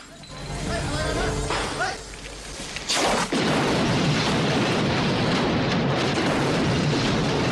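A large explosion erupts suddenly partway through, then gives way to a sustained, loud roar of rumbling and crackling debris that fills the rest of the scene, close and powerful.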